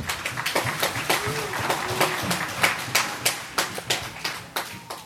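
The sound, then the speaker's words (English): An audience at a religious talk claps for about five seconds, a steady patter of many overlapping hand claps with sharp, irregular bursts at moderate loudness, and faint voices murmur underneath. “You can clap.”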